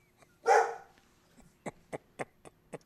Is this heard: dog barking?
yes